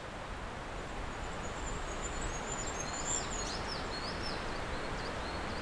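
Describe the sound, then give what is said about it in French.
Faint, high birdsong with a few quick chirps and trills over the steady, loud rushing of a torrent. No one speaks. “La légèreté des oiseaux.”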